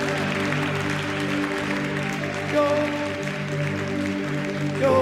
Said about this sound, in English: Let's celebrate God with a clap offering right now.